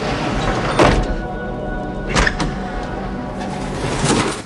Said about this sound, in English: Jim slowly straightens up in his seat again and closes the door.